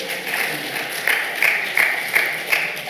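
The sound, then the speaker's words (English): Steady applause from an audience for Charlotte as she is invited up to the front, a dense wash of many hands clapping at moderate volume, with a few sharper claps standing out at a regular pace toward the end. “Shall we give Charlotte a ripple of applause, is she?”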